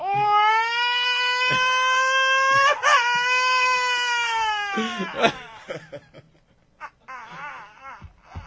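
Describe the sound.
A voice imitates a child crying: one long, loud, wavering wail, then breaks into choppy sobs and whimpers that fade toward the end.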